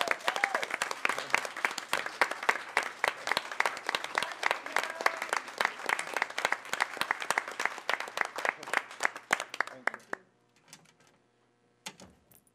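A crowd gives a standing round of applause, dense rapid clapping that stays loud and steady for about ten seconds before fading abruptly, leaving a few scattered claps and near silence.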